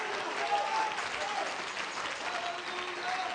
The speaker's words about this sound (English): My God, clap your hands unto him and bless him tonight.